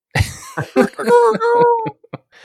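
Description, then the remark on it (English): A person imitates a rooster crowing with their voice, as a minor illusion spell in a tabletop role-playing game: a rough, choppy start rising into a long, wavering, high-pitched held note that breaks off, followed by a brief quieter sound. “I use minor illusion to make a rooster crow sound.”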